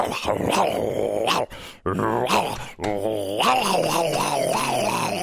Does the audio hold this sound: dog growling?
yes